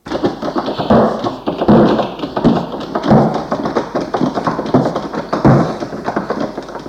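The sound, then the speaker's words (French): Someone repeatedly rattles and shakes a locked front door, trying to open it, handle jiggling and wood knocking in quick uneven bursts, fairly loud with no voices. “Malheureusement, arrivé devant la porte d'entrée, ils voient qu'elle est fermée à clé. Ils essayent de l'ouvrir.”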